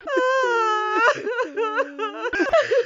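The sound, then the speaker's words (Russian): A voice imitates an old man and old woman crying bitterly, with a long drawn-out wail breaking into wavering, sobbing moans. It is fairly loud, with no other sounds around it. “Дед с бабой горько плачут.”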